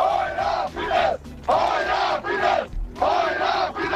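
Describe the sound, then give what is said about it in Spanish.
A crowd chants in loud, rhythmic bursts, voices rising together in repeated shouted phrases with brief pauses between each cry, as a group of party militants tries to rouse supporters at a political rally for Orbán, amid a sea of flags and torches. “Con este tipo de gritos.”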